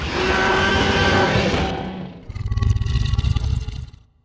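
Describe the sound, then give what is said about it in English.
A huge, loud T-Rex roar from Jurassic Park, made by sound designer Gary Rydstrom from real animal sounds, harsh and broad, holds for about two seconds, then breaks into a deep, rattling gurgle of rapid pulses that fades out. “So that original T-Rex roar was made by Alan Pete's mentor, the sound legend Gary Rydstrom.”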